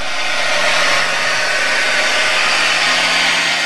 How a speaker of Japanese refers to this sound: それはグレイシャーベイで水中マイクで録音したたった一艘の小型ボートが水面を進んでいくことです。